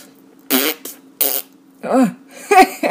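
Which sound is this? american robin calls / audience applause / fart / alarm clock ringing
fart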